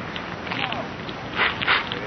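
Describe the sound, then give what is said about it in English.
A newspaper catching fire after being lit: soft, scattered crackling and rustling that swells into two brief, brighter bursts near the end, fairly quiet, with no one speaking. “Hey, the paper's on fire”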